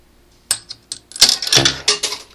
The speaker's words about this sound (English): I have no credits on the credit meter, and I'm about to put some coins in. You'll notice a slightly different tone as I put each coin in the machine. Here goes coin one.